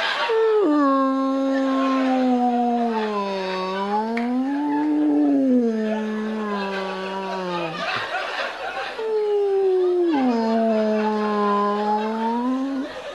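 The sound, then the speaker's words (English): A man's voice, a father in the bathroom, imitates humpback whale song with long, loud, wavering moans that slowly rise and fall in pitch, sustained almost without pause. “My dad, honestly, when he's in the bathroom, it sounds like songs of the humpback whale.”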